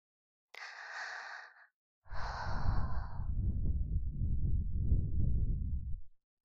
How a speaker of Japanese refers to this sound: 私の吐息気持ちいい？そんなに褒められるともっとお耳攻めたくなっちゃうな。